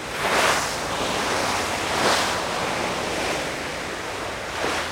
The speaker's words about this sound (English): Here's what sailing into the Southern Ocean sounds like, by the way.